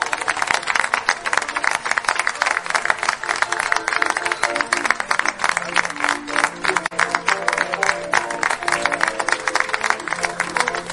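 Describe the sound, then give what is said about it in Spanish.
Loud, sustained applause from a crowd at a small tribute ceremony, dense clapping filling the whole stretch without pause, with faint murmuring voices and a few tonal sounds underneath. “Un aplauso fuerte para todos.”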